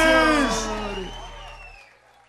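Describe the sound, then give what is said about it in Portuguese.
A short burst of crowd cheering, led by loud rising and falling whoops, swells at once and then fades away over about two seconds. “Salve de palmas”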